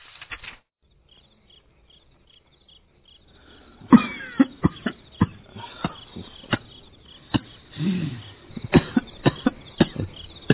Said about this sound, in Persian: سری چیه؟ انگار حالت خوب نیست. نه چیزی نیست، فقط سرفه.